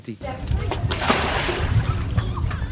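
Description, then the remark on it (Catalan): Water splashes and sloshes continuously as Syrians scoop and toss out bucket after bucket of water from around their tent dwellings and plastic roofs, in repeated dumps, with faint voices in the background and a steady wash of noise throughout. “A fora, la pudor d'aquest plàstic cremat és un punt asfixiant, però els sirians s'apressen a treure galledes i més galledes d'aigua dels voltants dels habitacles i dels castigats sostres de plàstic, perquè venen noves tempestes, diu la previsió”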